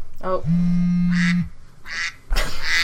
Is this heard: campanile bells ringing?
no